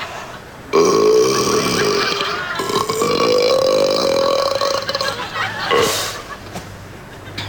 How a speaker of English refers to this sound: What sound do you love? Oh, burping. I love it.